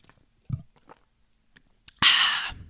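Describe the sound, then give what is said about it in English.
Someone takes a sip from a bottle of Evolution Fresh drink: faint mouth clicks and a soft knock first, then a loud, breathy slurp that cuts off after about half a second. “Today I'm drinking Evolution Fresh.”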